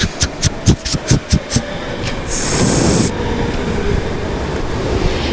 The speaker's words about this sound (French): Le métro. C'est quoi le bruit du métro?